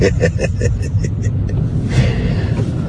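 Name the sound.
car engine rumbling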